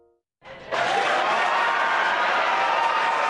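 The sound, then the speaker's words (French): A crowd erupts into sustained applause and cheering for the splashdown of a SpaceX Dragon capsule in the Atlantic Ocean off Florida, after a brief quiet moment, the dense clapping swelling quickly and holding steady and loud, with shouts mixed in. “Des applaudissements pour l'amérissage de la capsule Dragon dans l'océan Atlantique au large de la Floride.”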